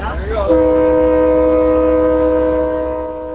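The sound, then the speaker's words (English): A train's horn blares in one long, loud, sustained blast, rising quickly and holding steady before easing slightly, over a low rumbling hum of the train moving along tracks through road crossings in Eau Claire. “Eau Claire Police Officer Paul Miller watched from the train as a few cars ran the signal lights.”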